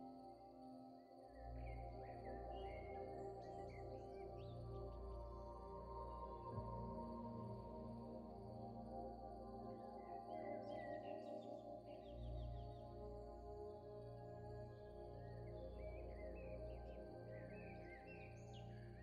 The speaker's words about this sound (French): Autour de vous résonne le chant des oiseaux qui annonce l'arrivée prochaine de la nuit.